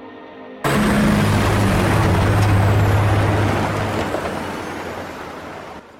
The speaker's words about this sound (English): Trucks laden with tree trunks pass each other in a snow-covered timber yard.